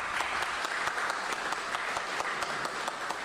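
A crowd applauds steadily, a dense wash of many hands clapping at an even level with no voices standing out, applauding in thanks to a man who helped make a radio programme.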